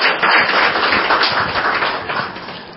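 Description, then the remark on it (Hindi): An audience at a Raja Yoga meditation talk claps for participants after a small experiment done in front of them. Many hands make a dense, sustained wash of applause that stays loud throughout and fades slightly toward the end, with no one speaking. “Thank you, इनके लिए जरा तालियां तो बजाइए।”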